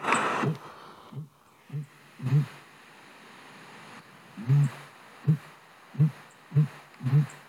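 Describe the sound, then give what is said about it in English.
A sooty grouse's mating call: a series of about eight deep, muffled hoots, low and throbbing, coming in uneven groups with short gaps. No voices are heard. “Sooty grouse mating call.”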